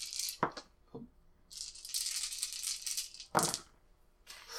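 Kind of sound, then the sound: household object, dice rattling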